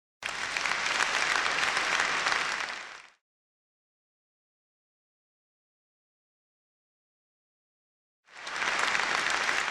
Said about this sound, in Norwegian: La oss takke dem med stormende applaus.